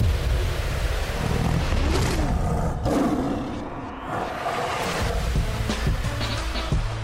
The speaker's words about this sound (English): All right, sounds like a growling bear.